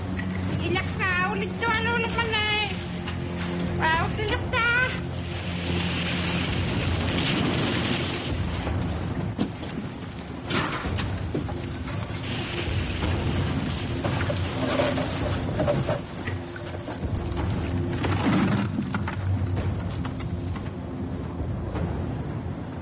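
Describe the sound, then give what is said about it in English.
Sea ice blocks shifting overhead, heard from under the ice: a loud, continuous low rumbling with deep groans, and squealing, whining creaks rising and falling near the start. “They've been under the ice for less than 15 minutes when they begin to hear movement in the ice blocks overhead.”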